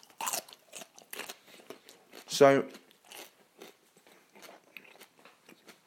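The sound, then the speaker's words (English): Crisp crunching of someone biting and chewing a raw radish, repeated bites with one louder snap midway, and a voice speaks briefly. “Oh, I just spotted a radish. I might have to munch on that.”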